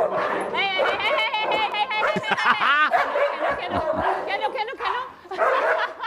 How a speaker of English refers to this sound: So the dogs all... There was like four of them going at each other.